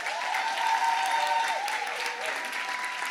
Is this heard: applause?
yes